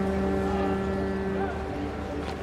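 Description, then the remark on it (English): The steady, droning engine of a double-decker tour boat churning out of fog, packed with journalists and photographers, its low mechanical tones holding constant with a faint wash of water noise, continuous and fairly loud throughout. “A double-decker tour boat churns out of the fog, packed with journalists and photographers from the national press.”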